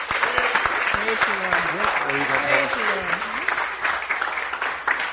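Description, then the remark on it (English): An audience gives a cheer for the Lord, applauding steadily with dense, continuous clapping, while voices rise in cheers and whoops above it during the first few seconds. “Give the Lord a cheer.”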